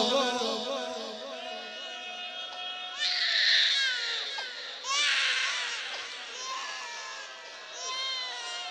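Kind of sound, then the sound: human body sound, baby crying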